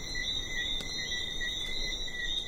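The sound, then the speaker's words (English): A dense chorus of small frogs on an island fills the night air with continuous, high-pitched trilling, steady and layered without pause, set against a soft breeze. “There's just the sound of the breeze and these little frogs that come out at night and chorus all over the island.”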